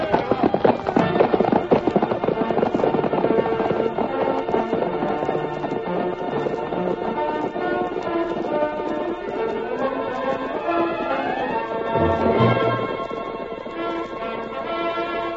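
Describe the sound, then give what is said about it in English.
Rapid, steady galloping hoofbeats of a group of cavalry horses led by a white horse, racing across an open plain, pound throughout, mixed with loud, sweeping orchestral music that nearly matches them in volume; no one speaks. “swiftest of all was the masked man's white horse, whose hoofs thundered against the earth”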